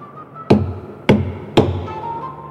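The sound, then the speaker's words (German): Three loud, hollow knocks on a cheap wooden coffin, evenly spaced about half a second apart, each with a dull resonant thud; no one speaks. “An den Sarg klopfen.”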